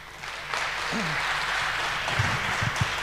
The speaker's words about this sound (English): He's a spokesperson for the Free Software Foundation Europe in the Netherlands, so please give him a very warm round of applause.